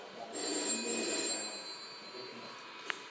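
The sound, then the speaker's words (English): An old, dark grey Bakelite telephone rings after the number 99 is dialled, a sustained, metallic trill, loudest in the first second and then easing off, followed by a single sharp click near the end. “Okay, there we go, that's the phone ringing.”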